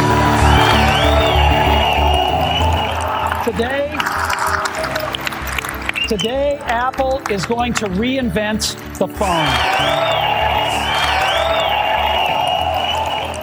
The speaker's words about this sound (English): We had to edit this down because the applause just went on and on and on forever.